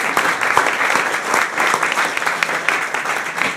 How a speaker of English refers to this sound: That's fantastic. Give that lady a round of applause. That's absolutely wonderful.